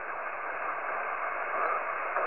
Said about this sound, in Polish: Odbieram jakąś stację w Dużych Szumach. Proszę o spróbowanie jeszcze raz.